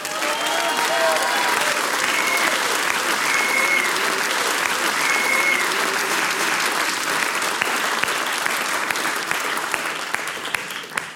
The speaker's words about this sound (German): Einen Applaus nochmal für alle Mitwirkende heute.